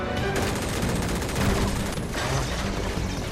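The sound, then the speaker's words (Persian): A loud, sustained burst of rapid gunfire fills the whole stretch, dense overlapping shots with sharp cracks, continuous with no pauses. “شلیک کنید، شلیک کنید.”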